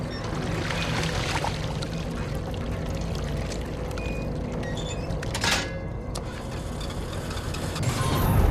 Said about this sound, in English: The propeller spins and the boat starts off.